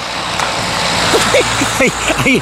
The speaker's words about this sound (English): There's another car coming. All these cars.